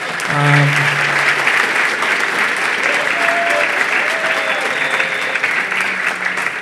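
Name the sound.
round of applause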